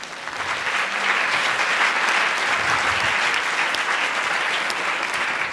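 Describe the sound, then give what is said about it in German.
An audience breaks into steady, sustained applause welcoming presenters, a dense wash of many hands clapping at an even loudness for several seconds without any voices standing out. “Herzlich willkommen und einen großen Applaus.”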